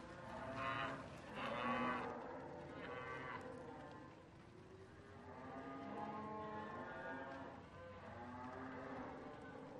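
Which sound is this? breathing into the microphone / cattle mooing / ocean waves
cattle mooing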